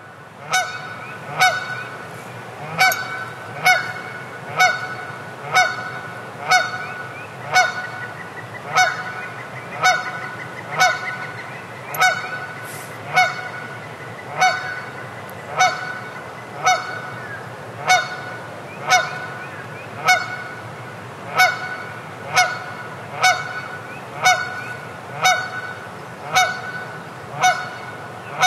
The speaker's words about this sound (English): So let's spend a half minute or so with the sun rising in Devil's Den and some waking waterfowl from this past Easter weekend.